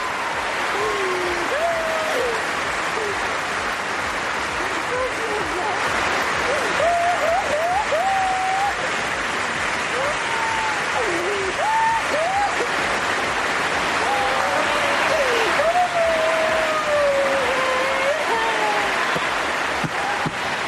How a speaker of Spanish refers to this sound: Se fusionaban las lágrimas, los sollozos, los gritos, el llanto de Carolina con la ovación, los aplausos de un pabellón puesto en pie, despidiendo a una número uno como Carolina Marín.